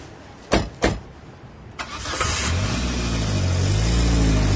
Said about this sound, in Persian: بی هیچ حرفی میره سوار ماشین میشه. کسرا هم میشینه پشت فرمون و راه میافته.